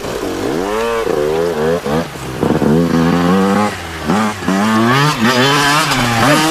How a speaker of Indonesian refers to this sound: Dia sengaja mengendarai motornya ugal-ugalan.